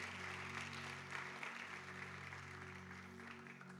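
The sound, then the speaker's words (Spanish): Steady applause from an audience welcoming people who have come to the front before a prayer, a dense wash of clapping at even loudness with a low electrical hum beneath it and no voices. “Venga, deje su lugar y venga hasta acá y démosles un fuerte aplauso a ellos de bienvenida.”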